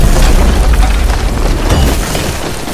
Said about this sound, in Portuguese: O moinho rodou para baixo e caiu arrebentando o segundo e primeiro andar.